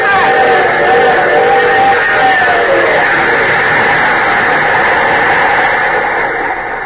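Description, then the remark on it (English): A train engine roars past in a rail yard in a loud, steady wash of rumbling noise, with wavering tonal hums in the first few seconds before the sound evens out and eases slightly at the end. “The one who was standing here when that engine passed.”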